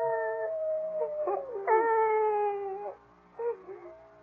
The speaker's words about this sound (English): Sick? No, I think it's that howling coyote that's bothering you.